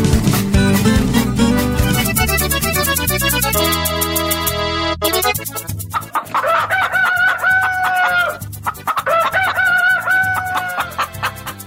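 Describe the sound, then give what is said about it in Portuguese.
A rooster crows twice, loud and harmonic, each a long wavering cock-a-doodle-doo, following a few seconds of music at the start; used as a wake-up call to open the Embrapa rural radio program Prosa Rural. “Menino, a gente arrumou, foi um despertador para começar o programa de hoje”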